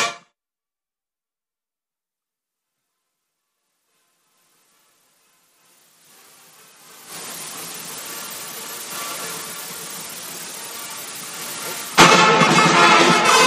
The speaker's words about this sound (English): They won the third quarter 20-9, and it's not gotten any better, and they will dribble it out for their 18th win of the year. May we have the buzzer, please? There it is.